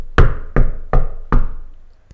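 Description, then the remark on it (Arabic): A visitor, the girl's grandfather, knocks on a house door: four loud, evenly spaced knocks, each thud ringing out briefly before the next, followed by a faint click. No voices are heard. “يوجد دق على الباب.”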